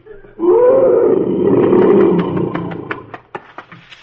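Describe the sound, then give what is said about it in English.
A huge lion lets out a deep, loud roar that swells for about two seconds, then breaks into a series of rough, grunting pulses as it fades. “But when he roars, that's when the cowards climb the trees.”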